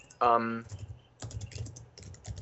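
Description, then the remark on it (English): Crisp computer keyboard typing close to the microphone in rapid, uneven bursts of clicks, preceded by a short voiced exclamation at the start. “It's because of the proximity of the keyboard to the mic.”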